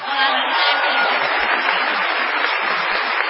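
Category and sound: crowd, audience ovation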